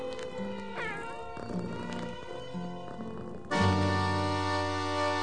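Several drawn-out, sliding cat meows, fairly loud, over a musical backing that swells into sustained, brighter tones partway through.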